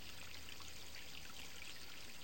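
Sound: toilet flushing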